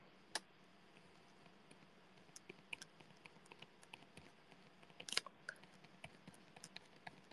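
A ballpoint pen scratches and taps lightly across paper as someone writes a message: a soft, steady run of small scribbling strokes and clicks with a couple of sharper ticks, no voices.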